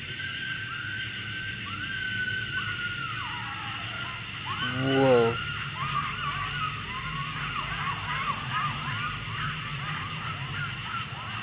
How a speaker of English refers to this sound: That's dogs. Yeah. I don't like that. One crazy. Something got a hold of them. Are they in the cemetery? No, they're just right the other side of this field.